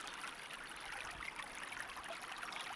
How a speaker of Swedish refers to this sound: Nu kommer vi här är en sån här jättefin damm med lite vatten, rinnande vatten och massa fåglar.